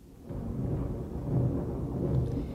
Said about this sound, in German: Ich glaube, wir bekommen ein Gewitter. Hoffentlich wird es nicht zu arg.